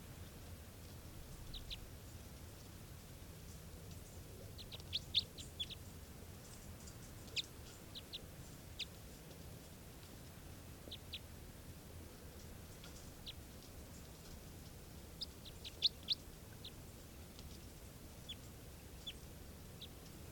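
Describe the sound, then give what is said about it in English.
Faint, brief low raspy calls of a wild bird come in scattered bursts over a low steady rumble, with clusters of short scratchy notes and long quiet gaps between them. No one speaks. “That was the wild bird. It's got a kind of a low raspy call.”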